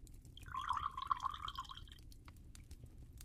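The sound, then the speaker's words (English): Milk is poured steadily into a container for about a second and a half, a gurgling stream over a low background rumble, then it stops. No one speaks. “I am just gonna pour the milk.”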